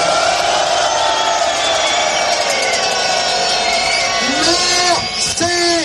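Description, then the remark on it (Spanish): A large crowd of farmers protesting at the meeting of European Union agriculture ministers in Córdoba boos loudly and without letup, a dense roar of voices, with several sharp rising whistle-like tones cutting through near the end. “Bueno, ha sido muy sonoro el abucheo, como escuchamos, de los agricultores que se han congregado para protestar ante la reunión de los ministros europeos de Agricultura de la Unión Europea, que están allí en la ciudad.”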